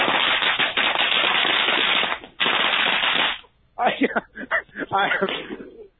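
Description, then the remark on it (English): A string of firecrackers, the final roll of fireworks, pops and throws sparks into the air in a rapid, dense crackle for about three seconds with one brief break, then trails off into scattered, uneven clusters of louder, harsh bangs. “I think part of me is on fire, actually, because that was a string of firecrackers that that threw sparks in the air.”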